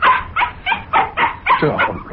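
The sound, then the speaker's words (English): A dog barks excitedly as it is about to be taken for a walk, in a quick run of about seven sharp barks, one right after another, with a few higher yips mixed in and no one talking. “Yeah, now you got to bark it again.”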